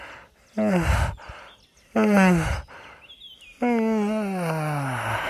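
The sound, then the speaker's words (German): Three drawn-out, voiced yawns made while stretching as a voice exercise, each a long sighing exhale that slides downward in pitch, the last one longest, fairly loud with short pauses between them. “Und zum Abschluss machen wir das, die Stimmübung, die eigentlich jeder von euch kennt und lieben gerne macht, morgens und abends. Wir gähnen und räkeln uns.”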